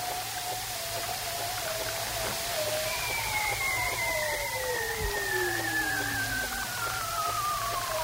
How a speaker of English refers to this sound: And those male bearded seals are hanging vertically in the water with their heads down, singing in the darkness below the sea ice to retain their harem of females.